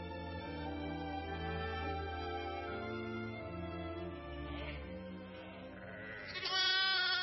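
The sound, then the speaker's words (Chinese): A lamb bleats in drawn-out, wavering cries as a lion carries it off, with a louder, brighter bleat near the end; sustained tonal layers run underneath throughout. “哎呀，不好了，狮子，他抓走了我的一只小羊啊！”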